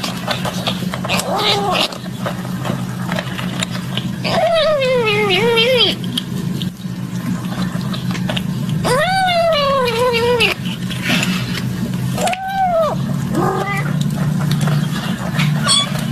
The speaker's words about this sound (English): A little squeak at the end. It's a squeak at the end. What's that sound? It's a little kitten eating food.